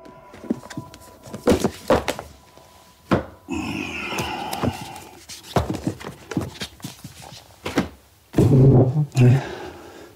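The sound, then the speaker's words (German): Someone clears items off a chair so another person can sit: a series of irregular wooden knocks and thuds as objects are picked up and set down, with rustling and shuffling in between and a heavier clunk near the end. “Ich habe dir den Stuhl jetzt freigeräumt.”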